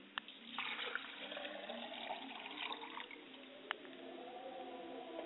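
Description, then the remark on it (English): Liquid is poured out as a libation in a continuous splashing stream, fairly quiet, with a couple of sharp drips or clinks standing out along the way. “I pour libation to my mother's spirit, and I say, drink well, mother, libation.”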